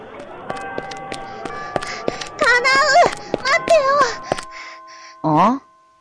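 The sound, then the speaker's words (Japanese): Quick, evenly spaced footsteps run along a hard school hallway floor, getting busier over a few seconds, with short high-pitched voices or squeaks breaking in partway and once more at the end. “廊下は走っちゃダメだぞ。”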